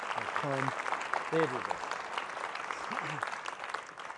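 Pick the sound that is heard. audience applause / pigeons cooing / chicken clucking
audience applause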